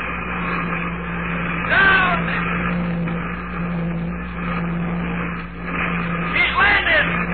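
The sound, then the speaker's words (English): A rocket ship from Luna City comes in to land over the field, its magnesium hull white hot, its jet brakes roaring in a steady rush with a low hum beneath, swelling into two louder, whining surges. “Her jet brakes, melting fire. She's right over the field now! She's coming down! Down! Down!”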